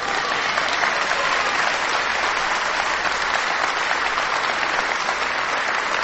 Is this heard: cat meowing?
no